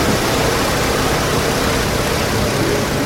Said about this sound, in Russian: Тепловая пушка – это такой обогреватель. Его используют, когда нужно согреть большое пространство. Вентилятор направляет струю воздуха через нагревательный элемент, и получается такой горячий ветер.